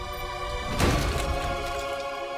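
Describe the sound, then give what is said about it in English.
A walnut is smashed with a single sharp, loud, crunching crack, followed by a brief crackle that fades into a steady humming background. “He smashes a walnut.”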